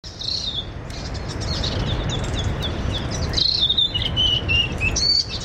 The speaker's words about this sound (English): That is from Okarito. It is a dawn chorus after 2 days of hard rain, and it's in the Te Wahipounamu region.